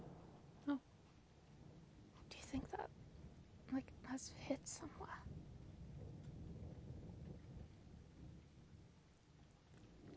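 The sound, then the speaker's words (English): A low thunder rumble, not very close, rolls on beneath steady rain, with a few sharp drops tapping near the start. “can't be that close because of like the whole rule of time between the flash and the thunder.”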